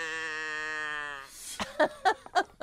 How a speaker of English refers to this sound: Is that a goat? Oh, it does sound goaty. It's a goat? It's supposed to be a cow, I think. It's a cow?